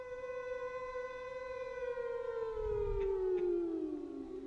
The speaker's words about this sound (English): If we are attacked by nuclear weapons, these are the warning sounds we must recognize. First, the attack warning. If an attack is imminent, sirens will sound with a rising and falling note like this.